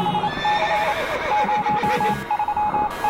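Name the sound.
horses neighing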